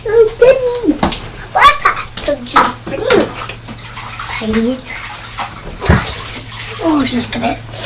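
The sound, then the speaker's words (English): Water pours steadily into a small pot, a continuous splashing rush lasting several seconds, while an adult and a child talk over it. “I need a little pot of water.”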